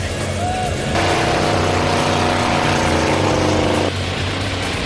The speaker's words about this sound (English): Run number three for the Jet Doctors. Go! The engine's revved up and those wheels are really spinning.